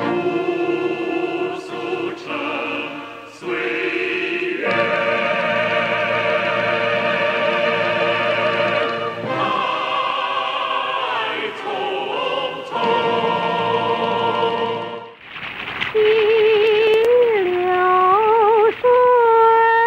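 A theme song from the film Xi Shi in its record version: steady, sustained chords shift through several changes, then after a brief dip a wavering, vibrato-rich melody line rises above the accompaniment.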